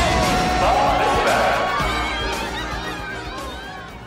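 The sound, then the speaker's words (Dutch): A large crowd cheers and shouts for a four-man Jamaican bobsled team at the Olympics, a dense, continuous roar with whoops and voices rising above the din before it gradually eases off slightly toward the end. “Iedereen juicht voor de 4 nieuwe sporters die het eigenlijk zo goed doen.”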